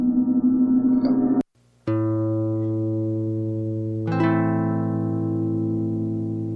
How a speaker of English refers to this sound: Even harmonics are more calming and peaceful, right? So let me show you the difference, play a little bit of difference on instruments, right? So here we have the harp, which is even harmonic.